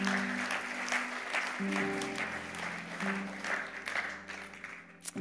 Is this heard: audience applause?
yes